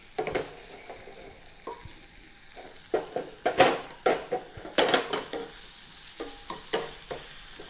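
Chicken sizzles steadily in oil in a hot pot as it is stirred to sear its surface, with irregular scraping and clacking strokes punctuating the constant frying hiss. No one speaks.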